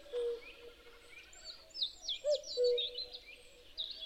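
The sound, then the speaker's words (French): A chaffinch sings a quick run of bright, chirping notes among other birdsong, while a soft low hooting tone sounds in the background. “Un pinson vient me chanter sa belle ritournelle.”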